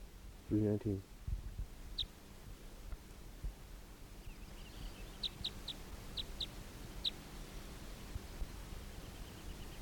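Short, high calls of decoy birds chirp in quick clusters over a steady hiss, after one loud, low, throaty call near the start, while a caught wild bird is being recorded.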